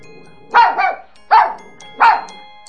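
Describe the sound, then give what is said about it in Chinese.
A small dog sitting nearby barks three times in quick succession, sharp yappy barks, the first one doubled, with no talking around them. “小狗狗汪汪汪地叫了叫。”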